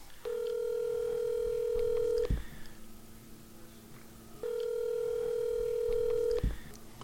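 Telephone tones on a line as someone is called: a steady, bright electronic tone holds for about two seconds, drops to a quieter, lower hum, then the same long tone repeats. No one speaks.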